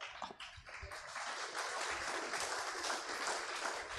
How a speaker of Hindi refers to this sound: किसके लिए ताली बजा रहे हैं? अच्छा, खुद के बारे में सुन करके ताली बजा रहे हैं, तो दिस इज इंटरेस्टिंग।